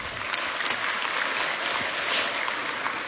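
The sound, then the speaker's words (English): An audience claps steadily for about three seconds, a dense, even patter of many hands at moderate loudness, with no voices over it. “Okay, thank you, and give her a hand.”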